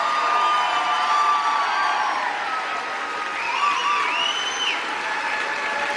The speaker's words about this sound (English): They're all standing up and applauding. All those old white guys, every single one of those old white guys, and some of their old white wives.